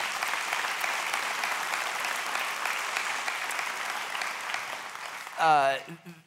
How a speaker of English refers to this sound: You know, if this excites you or interests you, you can applaud. I'll give you permission to do that.